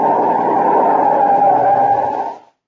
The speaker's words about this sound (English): Okay, now brace yourself. I'm shoving the brakes on hard.